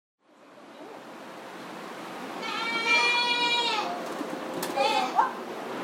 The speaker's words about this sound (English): Goats are everywhere at Farum Moraine Farm.